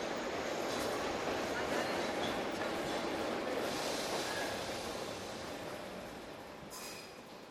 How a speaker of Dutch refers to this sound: De trein met bestemming Oostende rijdt het station binnen op spoor 5. Deze trein stopt in Brussel-Zuid, Gent-Sint-Pieters en Brugge.